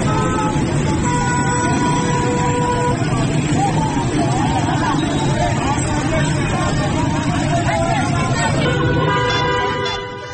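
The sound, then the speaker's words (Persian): Dense street traffic in an Iranian city during a power cut, with traffic lights out for hours, rumbles steadily, with car horns honking repeatedly through the din and a murmur of crowd voices mixed in, fading slightly at the very end. “در پی قطع برق در بسیاری از شهرها، چراغ‌های راهنمایی نیز ساعت‌ها از کار افتاده و موجب به وجود آمدن ترافیک گسترده و سرگردانی شهروندان شده است.”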